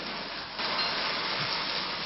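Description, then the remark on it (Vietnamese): An audience at a Buddhist talk gives a bigger round of applause on request, clapping steadily in a dense, continuous wash that swells a little louder after a moment and then holds even, with no voices heard. “Cho nên nếu Phật Tổ chứng minh thì con xin cho một chàng pháo tay to hơn nữa, coi như tỏ tấm lòng thành, con xin sám hối.”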